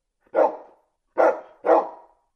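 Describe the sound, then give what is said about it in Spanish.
A stray dog in a vacant lot barks three times, loud, with a short pause after the first bark and the last two coming quickly together. Nothing else is heard. “Acá hay un perro guardián.”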